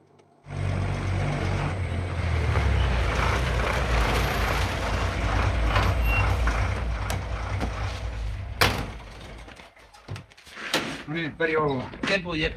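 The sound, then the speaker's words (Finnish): The vehicle of the Helsinki workhouse arrives on the institution's grounds: its engine rumbles steadily for several seconds, then a sharp clunk like a door, and voices start talking as the engine noise fades. “Helsingin työlaitoksen auto on juuri saapunut laitoksen alueelle.”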